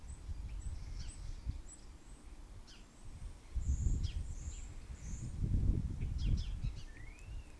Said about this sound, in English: You can probably hear the birds still. They're still all invisible though. Not seen any of them.